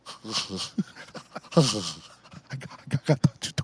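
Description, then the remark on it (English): A voice imitates heavy, labored breathing: a series of loud, raspy gasps and huffs, some with a groaning voiced edge, coming in uneven bursts. “You know, you start breathing like... Oh.”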